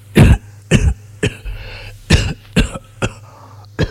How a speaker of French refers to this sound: Toussez.